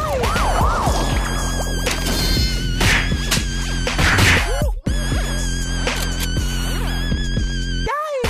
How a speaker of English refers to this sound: Yo, what the fuck? Yo, do I hear sirens, motherfucker?